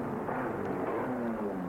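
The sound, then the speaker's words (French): A car drives along with a steady, low engine drone and road rumble, its pitch shifting slightly as it moves. The sound is continuous, with no voices. “Sa voiture pour aller là-bas.”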